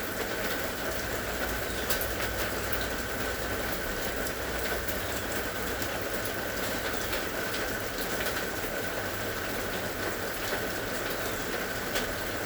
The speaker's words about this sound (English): Nowhere to go, nothing to do, except listen. Listen to the rain.